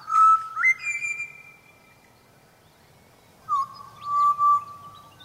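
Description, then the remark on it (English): Flute-like whistled notes of a pied butcherbird, clear, in two short phrases separated by a pause, with some held tones and quick slides, over a faint low background rumble. “I think it's proof all the more that these pied butcher bird songs are music.”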